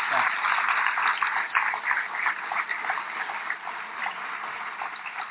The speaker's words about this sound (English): Please join me in giving them a warm round of applause for all of this.